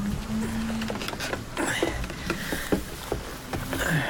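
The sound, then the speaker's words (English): Steady hiss of heavy rain pelting down as someone walks to a cow byre, with scattered sharp drips and spatters over a continuous wash of noise and a faint low hum underneath. “walks to the cow byre in the pelting rain.”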